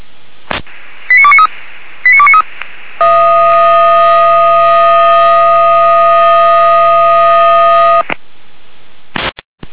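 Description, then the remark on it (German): Over a narrow, radio-like channel from a dispatch center, two brief bursts of high beeping tones are followed by a loud, steady alarm tone that holds unchanged for about five seconds before cutting off. “Leitstelle auf einmal Land mit Alarmierung.”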